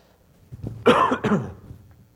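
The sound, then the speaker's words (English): A person with a cold clears their throat and then coughs twice in quick succession, fairly loud, with no talking around it. “I have a cold this morning. It's kind of a cough, nasal thing, so I'm sorry, but I'm going to take a sip of water.”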